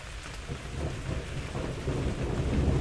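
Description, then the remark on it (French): Steady rain, less heavy than earlier, patters down without pause onto an olive tree in front of a porch used as shelter, while a low rumble of thunder rolls underneath, building slightly in loudness toward the end. No voices are heard. “Quant à la pluie, si elle est moins forte qu'elle n'était tout à l'heure, elle continue malgré tout et l'olivier devant moi en ressent les effets.”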